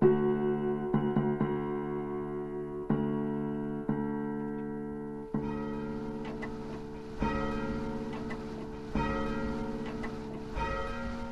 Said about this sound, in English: The old North Church bell rings as a steady stream of people file in and out of the 286-year-old building. Many pause to admire the bell ringing in its famous steeple.